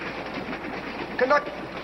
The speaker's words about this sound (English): Again on the commuter train.